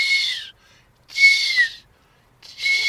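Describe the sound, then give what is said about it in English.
Three thin, high-pitched seep calls of a redwing migrating at night across the North Sea to Norfolk, each drawn out and sliding slightly downward, with short silent gaps between them and no talking. “And when red wings migrate across the North Sea, they'll sometimes come to Norfolk in the hours of darkness, and you'll hear this.”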